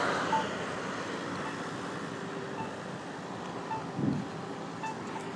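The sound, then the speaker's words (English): Steady roar of street traffic at South 3rd Street and Kingston Avenue, with a broad rushing wash, a few louder swells as vehicles pass, and faint beeping tones scattered over the din. No one speaks. “You can probably hear all the traffic whizzing by.”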